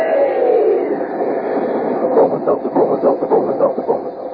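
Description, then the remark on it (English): A steam train sound effect, the talking train of a Bromo Seltzer radio advertisement, chugs steadily, its rhythmic puffing swelling into distinct, evenly spaced beats over a continuous rushing hiss, fairly loud, with no talking. “While we're waiting for Ellery to tell us something about next week's mystery, come on there, swing aboard our famous talking train.”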